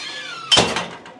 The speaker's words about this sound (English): The front door of Amity Elementary doesn't sound too good.